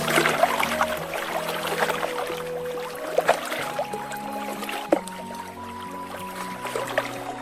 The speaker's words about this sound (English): Flowing water is beautiful.